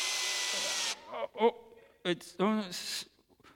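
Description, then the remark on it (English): A new power drill with its battery running low whirs loudly for about a second, sounding strained, then cuts out abruptly; short bursts of a voice follow in the quieter stretch. “I think the battery's running out of puff.”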